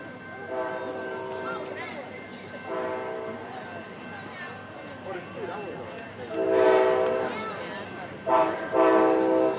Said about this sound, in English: This is not our train. This is the next one. Here Here it comes.